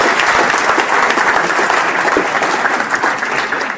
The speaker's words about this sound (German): Einen Applaus für Professor Dr. Joachim Herzberg.